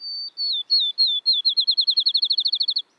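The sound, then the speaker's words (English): A field sparrow sings a sweet, high whistled song alone: a few slow, drawn-out notes that quicken into a fast, even trill, like a bouncing ball coming to rest. “Maybe it has a bright white ring around its eye, like this field sparrow.”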